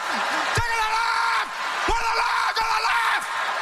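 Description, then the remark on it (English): A single voice mimics eight women screaming at the top of their lungs: loud, shrill, sustained shrieks in about three drawn-out bursts, with no words. “And then eight women scream at the top of their lungs for 2 minutes straight.”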